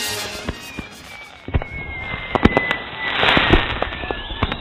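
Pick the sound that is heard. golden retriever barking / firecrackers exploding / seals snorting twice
firecrackers exploding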